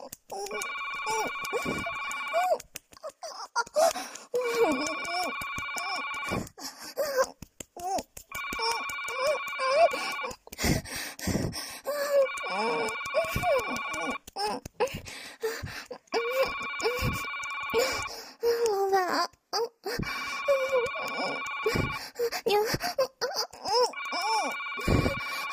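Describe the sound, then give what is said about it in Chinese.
A telephone rings over and over in steady, evenly spaced electronic bursts, about seven rings in all, loud, while a voice makes sounds underneath throughout. “好像是我，难听的电话，娘可不可以先停一下？”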